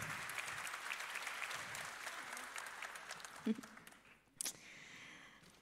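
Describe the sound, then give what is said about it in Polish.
An audience claps steadily for several seconds in applause for a team of advisors, a dense patter of many hands that thins out toward the end, with a couple of louder isolated claps or knocks near the finish. “Tak, więc ogromne tutaj brawa dla zespołu doradców i z nimi rozmawiajcie dzisiaj przez cały dzień.”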